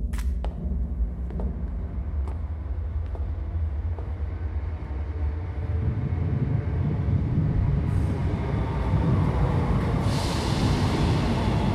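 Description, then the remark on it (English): A subway train rumbles steadily on the tracks, a loud continuous low roar with occasional sharp clanks early on and a rising hiss toward the end. No one speaks. “We get on the subway, and then wait.”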